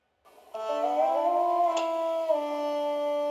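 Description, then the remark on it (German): A synthesized trumpet tone, made by drawing an upward line with a pen in a music-drawing program, sounds on its own for about three seconds, a bright, buzzy sustained note that glides gently upward in pitch, then dips slightly near the end. “Und wenn du mit dem Stift nach oben malst, dann wird der Ton höher.”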